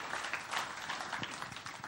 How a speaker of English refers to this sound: Let's give them another round of applause as they come down.